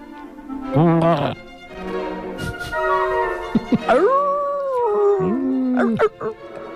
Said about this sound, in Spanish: Y entonces apareció por ahí el malvado lobo, música de lobo.